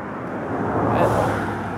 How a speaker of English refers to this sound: Let another car go by.